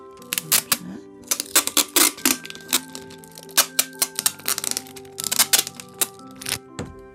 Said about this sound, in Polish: Miejsce złączenia dla pewności obklejcie dookoła szeroką taśmą klejącą. Do tego może posłużyć zwykła, szeroka, przezroczysta taśma. Niekoniecznie dwustronna, ale i ta się nada.